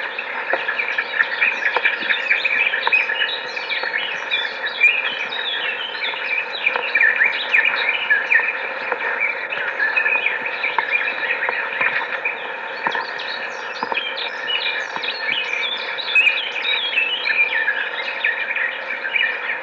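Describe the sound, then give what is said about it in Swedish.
Eurasian blackbird nestlings call nonstop in a dense, high-pitched chorus of thin chirps and squeaks, steady and fairly loud throughout, with no voices. “Vindljudet är koltrastungar.”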